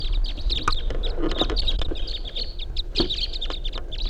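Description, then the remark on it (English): A flock of five birds calls as it flies right over a truck, with many short, high chirps overlapping in a busy, steady chatter over a low background rumble. No one speaks. “Five birds.”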